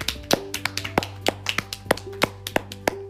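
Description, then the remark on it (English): A round of hand clapping from a small group for the last starter Pokemon, sharp claps landing in an uneven, lively rhythm, with a steady low hum running underneath and no talking. “So, this is the last starter Pokemon, so let's do a round of applause.”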